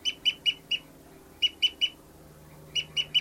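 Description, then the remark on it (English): A bird's sharp, high-pitched fight calls ring out in three quick bursts of three or four notes each, clear and fairly loud over a faint low hum, with no talking. “Fight call by 59's flying, oh, that was 273 flying around.”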